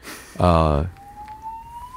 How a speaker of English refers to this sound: Fire alarm? I think so. Let's wait for that. Is it a real fire?